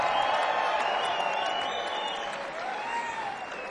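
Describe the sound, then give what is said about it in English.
Audience applause for a band: a dense, steady wash of clapping that holds at an even, fairly loud level for several seconds, with a few high whistles and cheers riding over it. “Give it up for … one more time, ladies and gentlemen.”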